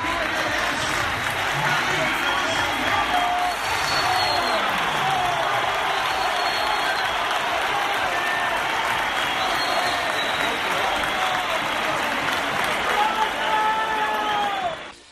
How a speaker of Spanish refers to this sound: Bastantes pitos, como era de esperar, y algún aplauso, sobre todo de la grada de tribuna, a la salida de Jason